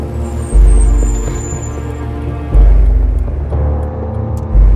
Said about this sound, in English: Jacob pulls away from the curb and follows Dr. Wentworth's car through an intersection. The right indicator on Dr. Wentworth's car blinks. Jacob turns a corner.